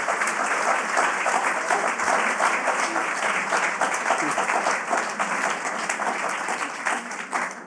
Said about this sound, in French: Eva Hulouz, merci infiniment d'avoir pris le temps de partager avec nous cette lecture de la démocratie. On peut l'applaudir.